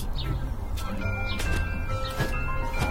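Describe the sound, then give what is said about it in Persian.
A whimsical cartoon sound effect of the Blippi machine's shrinking process: warbling electronic tones, sparkly chirps and soft swishing bursts, fairly loud and steady for about three seconds with no one speaking. “بزن بریم تا سر در بیاریم چرا همیشه بستنی های من آب میشن و میریزن رو دستم. فرایند کوچک سازی.”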